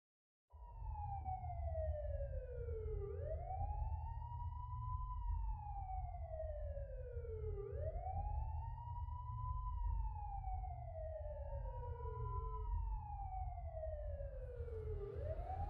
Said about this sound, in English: You can hear the sirens, the red and blue flashing lights through the window, reflecting across the walls and polished floors and shocked and scared faces.